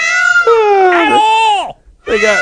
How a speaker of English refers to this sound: Oh, there we go. That's a peacock. Hold on. Listen to that.